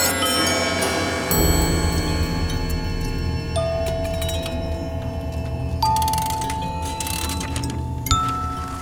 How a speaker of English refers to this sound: In minutes, I was standing in front of a darkened door, ringing a bell.